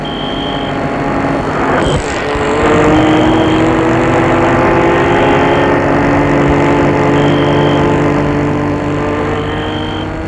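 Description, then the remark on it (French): A car engine bursts into life, revs up with a rising hum, then runs steadily as the chauffeur-driven car pulls away into the night, the sound easing off slightly toward the end. No one speaks. “La voiture s'est mise en route. Elle s'éloigne.”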